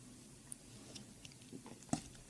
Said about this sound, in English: Hold on, let me sip my water.